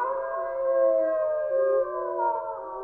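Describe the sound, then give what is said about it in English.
Several people howl together in imitation of a wolf pack, their long, wavering, overlapping howls loud for about three seconds, with no talking. “I was joined today by the Wolf Pack”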